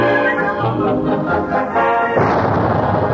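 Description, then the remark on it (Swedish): Blasting charges mark the start of building Götaverken's new shipyard at Arendal, between Göteborg and Torslanda on the Swedish west coast, in 1959: a loud blast erupts after a couple of seconds of steady, tonal sound, its broad roaring rumble lingering to the end. No one speaks. “Dessa sprängskott markerar påbörjandet av ett stort och betydelsefullt bygge på västkusten vid Arendal mellan Göteborg och Torslanda.”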